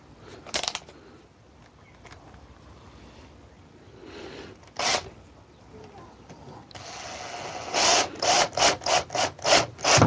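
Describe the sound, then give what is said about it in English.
A screw is driven in with a drill fitted with a screw bit: a few scattered rasping bursts, then a quick run of short, loud, grinding pulses near the end. “Put the screw bit back into the drill.”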